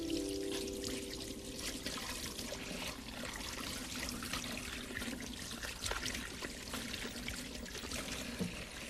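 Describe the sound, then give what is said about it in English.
Tap water runs steadily into a sink for several seconds as dishes are left to soak, a continuous hissing splash with a few faint clinks of dishes underneath and no one speaking. “I'll just let them soak there.”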